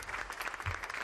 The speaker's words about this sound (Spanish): Se acaba de cuadrar por primera vez ante su hijo. Ahí suenan los aplausos. Ante Felipe VI, capitán general ya de todos los ejércitos.